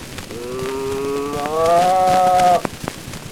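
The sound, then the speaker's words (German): A person imitates a cow on a Deutsche Grammophon recording, with one long, drawn-out moo lasting about two seconds, rising slightly in loudness toward the end before cutting off abruptly, with no talking. “Imitation einer Kuh.”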